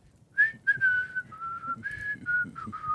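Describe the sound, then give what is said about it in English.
A person whistles a slow, wavering tune of several sustained notes, fairly loud, with faint low rumbling underneath and no talking. “Yeah, he's a gorilla whistling.”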